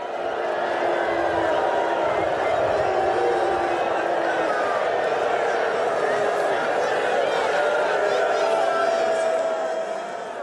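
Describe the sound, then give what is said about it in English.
A large stadium crowd boos a player loudly and continuously as he walks toward the tunnel, a dense wall of many voices holding steady for the whole stretch with no break or fade. “And as he started approaching the tunnel, the crush of boos got louder and more personal.”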